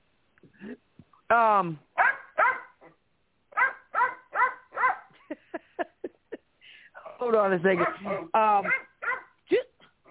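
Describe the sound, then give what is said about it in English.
Several dogs bark and whimper in short repeated bursts, with a loud cluster of overlapping high-pitched yelps partway through, while a person briefly speaks over them. “Dog, I'm going to punch you right in the dick.”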